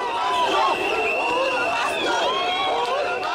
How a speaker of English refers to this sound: Supporters of Odinga poured into the streets, cheering and waiting for another chance to elect their candidate.